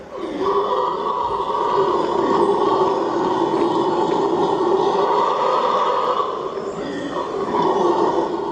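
Howler monkeys howl in a loud, continuous, rumbling roar that drones without pause for the whole stretch, easing slightly for a moment before swelling again.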